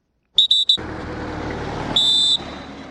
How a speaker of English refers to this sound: Cameroon troops whistle to indicate it is time for departure as about 3,000 Nigerians prepare to return to the village of Kukawa in Borno State.